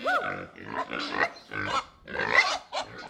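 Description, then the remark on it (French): A pig grunts and oinks repeatedly in short, bursty squeals and snorts, loud, with brief pauses between calls and no talking. “Élevage et le cochon.”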